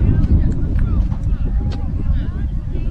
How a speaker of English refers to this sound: some gusting winds at times here in Chautauqua that we've seen.